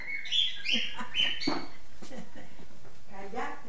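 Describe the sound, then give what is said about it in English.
A pet bird in a house chirps and chatters, with a quick run of bright, high calls at the start that give way to softer, speech-like babbling. “and cats, two Doberman pinschers, and a very chatty bird.”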